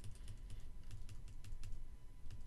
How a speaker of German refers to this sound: Halten Sie die Umschalttaste gedrückt, die Shift-Taste, um mit den Pfeiltasten die weitere Ausdehnung des Bereichs zu bestimmen.